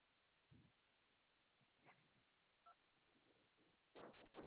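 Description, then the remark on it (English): Short, faint electronic beeps from a telephone keypad pressed in reply to an automated repair-status phone menu, a couple of brief tones spaced apart, followed by a louder burst of line noise near the end. “Would you like to check another phone number? Press 1 for yes or 2 for no.”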